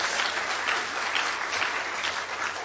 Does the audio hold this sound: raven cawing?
no